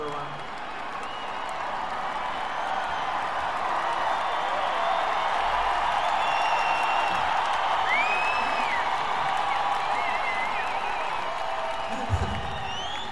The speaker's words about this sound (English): And at some point during the middle of it, like I'll give a signal or something, and then everybody just start booing, like, this sucks, you suck, you know, just screaming.